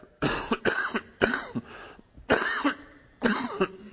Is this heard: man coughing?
yes